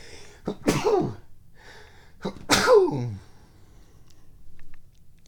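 Two loud sneezes about two seconds apart, each a sharp inhale followed by a bright, explosive burst that trails off, with faint background murmur in between.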